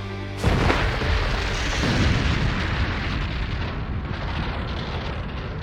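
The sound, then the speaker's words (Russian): A fiery magical explosion spell bursts in suddenly after a brief moment during a fight, then a loud, sustained roaring rumble carries on for several seconds without fading much, heavy. “Огненный взрыв!”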